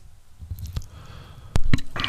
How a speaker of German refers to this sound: Ja, das ist so der Moment, wo du dich schwindelig hustest.